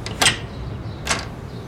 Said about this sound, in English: I made my way up to the back door of the warehouse. It appeared to be unlocked. With one hand on my standard issue M1911 sidearm, I slowly pushed open the door.